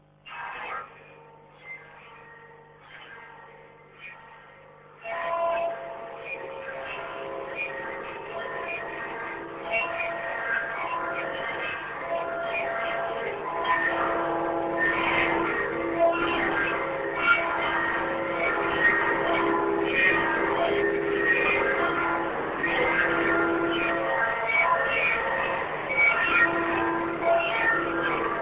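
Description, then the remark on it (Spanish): The church bells of San Isidro Labrador, rung by four scouts hanging from the bell ropes, clang in a dense, irregular peal. Their overlapping metallic tones ring on and blend into a loud, sustained wash after a quieter opening few seconds. “así suenan las campanas de San Isidro Labrador”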